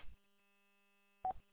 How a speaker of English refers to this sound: Don't forget to mention the Roger beep. Just got to turn it off.